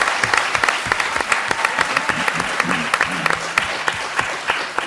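An audience in studio 105 of the Maison de la Radio, Radio France, applauds a performer before a grand piano set, clapping steadily for several seconds, a dense crackle of many hands with sharp individual claps standing out, loud and sustained with a faint murmur of voices underneath.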